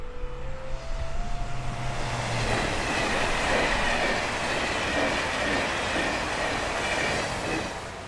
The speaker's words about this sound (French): La petite commune est traversée par la ligne TGV Paris-Dijon. Ici, les trains passent à grande vitesse, mais ils ne s'arrêtent pas, ou presque.